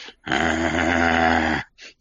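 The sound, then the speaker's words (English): A person growls like a dog: one loud, sustained, gravelly growl of over a second, followed by a brief quieter breathy sound. “Growl once for yes.”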